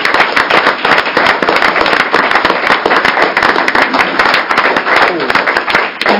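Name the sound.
applause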